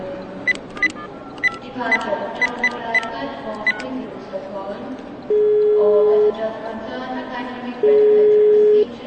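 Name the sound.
telephone dialing and ringing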